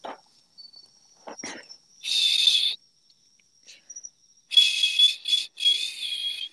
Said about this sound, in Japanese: 俺口笛吹けないんだ。なんか知らんけど。どんだけ頑張っても口笛が出ないの。